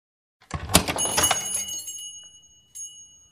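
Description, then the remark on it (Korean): A hotel door rattles open and the bell hung at its entrance jingles, its bright high tones ringing on and slowly fading, followed by a short second jingle at the end. “호텔 문이 열리고 입구에 걸어둔 종소리가 들리더니 굉음이 이어졌다.”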